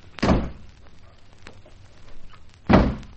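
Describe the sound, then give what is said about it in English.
Two heavy car doors, one on each side of the car, thud shut about two seconds apart, each a loud, deep, brief bang, with a quieter rustling lull between them. “Now, you shut the door on your side, Miss Dick Turpin, and I'll do ditto on mine.”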